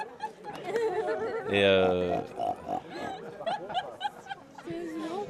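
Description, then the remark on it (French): Women of an opera company imitate pig grunts and squealing oinks as a sound effect in the background, with one loud, drawn-out nasal squeal standing out amid a busy mix of snickering, chatter and shorter snorts. “Et là, vous entendez des cochons derrière, ce sont donc les femmes de la compagnie qui excellent dans le bruitage du cochon.”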